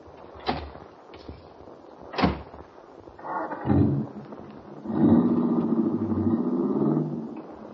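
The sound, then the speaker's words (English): A few sharp clicks of a car door latch on a car parked out front, then a heavy muffled thump as the door shuts, followed by a steady low engine rumble starting up. No one speaks. “My car is right out front.”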